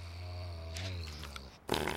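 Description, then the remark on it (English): A low, throaty gurgling rumble builds for a moment, then breaks into a sudden loud, spraying sputter as Dooley spits out his drink. No one speaks. “Dooley spits out his drink.”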